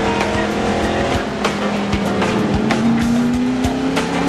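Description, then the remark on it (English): A car engine roars steadily as the car speeds down an alley, its pitch climbing gradually with rattles and sharp knocks over a loud, dense rumble. No one speaks. “On Friday, Porter is speeding down the alley.”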